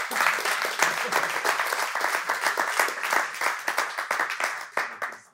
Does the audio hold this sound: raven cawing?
no